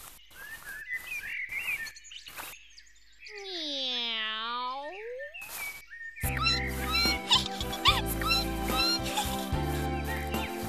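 A single drawn-out cat meow, rising then falling, stands alone in the middle after a few short high squeaks, followed by bright music.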